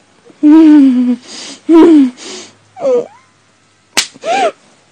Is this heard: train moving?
no